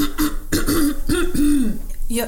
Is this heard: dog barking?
no